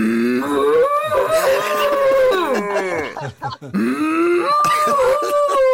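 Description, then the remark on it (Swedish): Long, drawn-out cattle moos in a barn, one bellow sliding in pitch, a brief pause, then another loud moo rising and holding, with faint stirring in between. “Svarar de? Hallå? Ja, nu skulle ni sett vilka blickar.”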